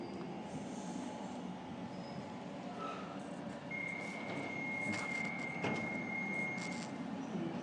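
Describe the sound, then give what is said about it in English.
A driverless DLR light rail train runs steadily, with a continuous rumble of wheels on track and a thin, high-pitched whine rising midway and holding for a few seconds before fading. “For those who don't know, the DLR is a driverless train.”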